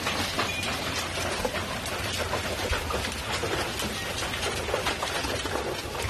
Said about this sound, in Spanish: Así caía el granizo en Mora de Rubielos, en la provincia de Teruel. Impresionante, ¿eh? Solo el sonido, ya verlo es increíble. En fin, las bolas es que eran como pelotas de ping-pong o como pelotas de golf, eran tremendas.